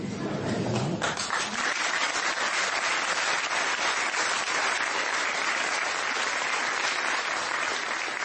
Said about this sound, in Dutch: Ik weet natuurlijk waar ik dat naartoe stuur, dat applaus, dat is voor hem, dat het natuurlijk zo bedoeld.